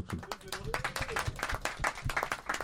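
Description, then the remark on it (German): A crowd applauds latecomers as they arrive, with quick, dense, irregular clapping that holds steady at a moderate level throughout, while voices murmur and call out underneath. “Applaus für die später ankommen.”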